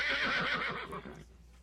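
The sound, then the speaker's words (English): A horse gives one loud whinny lasting just over a second, a bright, shaky cry that wavers and trails off abruptly into near silence. “Horse, off we go.”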